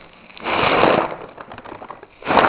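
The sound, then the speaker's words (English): A paper bag, used as a model of a lung alveolus, is blown up with two rushing breaths, a long airy burst followed by a shorter one, the paper crinkling faintly between them. No one speaks. “So we're going to inflate the alveolus.”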